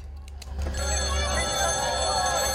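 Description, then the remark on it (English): A telephone in a house starts ringing after a brief moment of quiet, its bright, trilling bell sustained and fairly loud, over a low steady hum. “grimaces at the sound of the phone, standing with his back against the closed bedroom door.”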